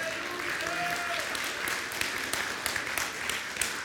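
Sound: audience clapping hands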